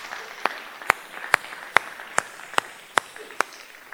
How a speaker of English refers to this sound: But let's just give Deb a round of applause and say thanks, okay? Come on, we can do that.